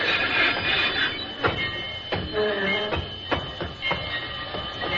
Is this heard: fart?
no